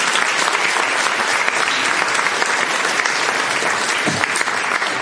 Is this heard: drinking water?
no